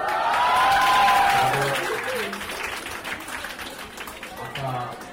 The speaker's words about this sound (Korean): 학생들이 환호성을 지릅니다.